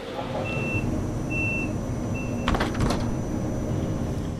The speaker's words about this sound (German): Ich steige ein in den Zug und erzähle Ihnen auf dem Weg dorthin etwas zu meinem ökologischen Fußabdruck. Bis gleich.